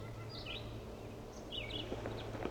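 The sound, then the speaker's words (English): Several decoys play short, chirpy red crossbill calls while a silent male red crossbill is being caught; their high clipped notes sound faintly and irregularly over a steady low hum, with no voices. “He's not calling, but the many decoys are.”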